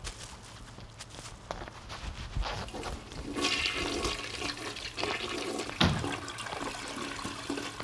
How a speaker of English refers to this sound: You're not supposed to flush the toilet.